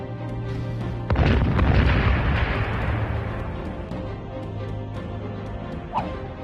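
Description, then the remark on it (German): A sudden loud explosion, added by computer to a fire scene in an action film, erupts about a second in, followed by a long roaring, crackling rumble of fire that slowly fades over several seconds, with a faint low hum underneath. “Und einfach noch eine Explosion und noch mehr Feuer eingebaut.”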